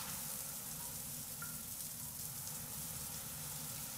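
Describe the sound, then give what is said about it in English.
A steady, continuous rush of water pours from a tap into a tub with the drain plugged, a broad hissing wash over a low churning rumble, unbroken for the whole stretch with no voices. “Now just remember to plug the drain first, and... Okay. Now we turn this on.”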